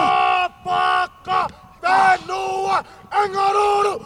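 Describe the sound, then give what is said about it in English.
Southern Oregon University football players at practice in Ashland, kneeling and led by a lineman, chant a haka, a battle cry from New Zealand's indigenous people: loud shouted phrases in unison broken into about six rhythmic bursts with short pauses, the voices deep and forceful. “They also did the haka, a battle cry that originated from the indigenous people of New Zealand.”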